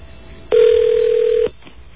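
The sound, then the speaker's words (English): A single loud, steady telephone tone from a phone being dialed on air in a studio holds one even mid-pitch note for about a second and then cuts off, with no voices around it. “Those people that don't like me dialing on the air are welcome to come down and answer the phone or make calls themselves.”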